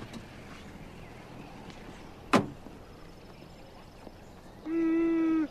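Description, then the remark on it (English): A chauffeur gets out of a car and its door closes with a single sharp thud amid quiet background rumble, followed a couple of seconds later by a steady electric humming tone that lasts under a second. “The chauffeur gets out and walks around to the back of the car.”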